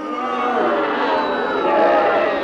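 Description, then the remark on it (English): A large crowd of Gloucester supporters booing loudly and continuously at a match against Cornwall after the referee waved play on, many voices blending into a dense, jeering roar that swells slightly toward the end as Sir John steps forward. “Cornwall blatantly blinded Gloucester in the penalty area and referee Ken Parry of Swansea waved play on, unleashing a storm of booing from the incensed Gloucester supporters, which reached a crescendo as Sir John stepped forward.”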